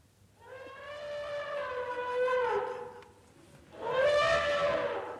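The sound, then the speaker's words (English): An elephant named Nelly trumpets twice outside a tent in the Alps: a long, brassy, wavering blast lasting a couple of seconds, a short pause, then a second loud call that fades out. No one speaks. “That's one of your elephants, Sabu.”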